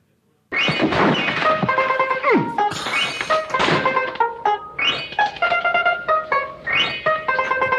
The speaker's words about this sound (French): Vous entendez ? C'est la musique des tontons flingueurs. Ah. Et c'est le portable, la sonnerie de portable de Patrick Belkiani qui a retenti.